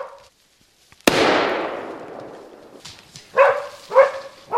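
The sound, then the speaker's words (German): A single sharp bang rings out and echoes away, followed by Eila, a hunting dog, giving three loud barks in a quick, uneven rhythm in a forest during a deer hunt, with no talking. “Und dann plötzlich bellt die Eila.”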